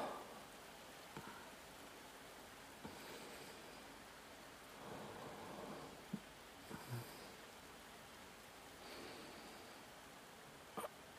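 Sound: rain falling outside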